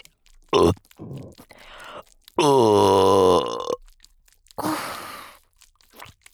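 A loud, drawn-out burp, its pitch sliding downward over about a second, with shorter breathy, crunchy bursts before and after it.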